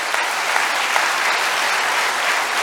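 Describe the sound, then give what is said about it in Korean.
An audience claps their hands for a pastor in a sustained, dense burst of applause, steady and loud throughout with no voices rising above it. “We want to clap hands for him.”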